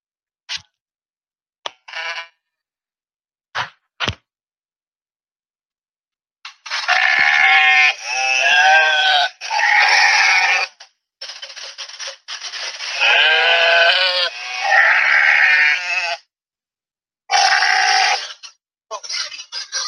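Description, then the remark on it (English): Several sheep bleat loudly, long wavering calls overlapping one another in bursts, with a few short clicks and quiet gaps between them. “I know where to find me a bunch of sheep.”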